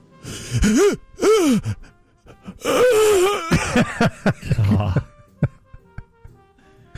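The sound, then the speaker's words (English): A voice imitates the labored, gasping breathing of a weakening patient: a series of strained, groaning gasps, fairly loud, tapering into shorter, fainter rasping breaths toward the end. “Breathing becomes progressively labored.”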